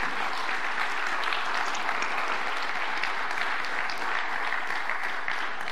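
A crowd applauds steadily, a dense wash of many hands clapping at an even loudness throughout, with no voices standing out above it.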